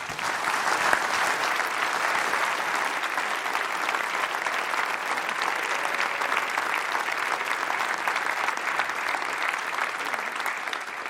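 A crowd applauds steadily for a history reporter about to give an hour-long talk, a dense wash of clapping hands that holds at an even, fairly loud level for about eleven seconds without any speech.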